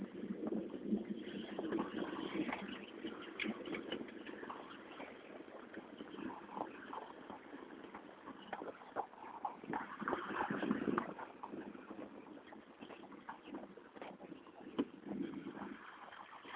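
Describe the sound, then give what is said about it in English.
A steady, broad roar of a non-commercial jet flying high overhead on a cloudy day fills the whole stretch, swelling slightly and wavering, with scattered small clicks and rustles over it and no voices. “Jet, but it's not a commercial one, I don't think. Anyway, maybe one that's up real high.”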